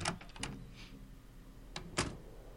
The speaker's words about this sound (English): The door to the lounge.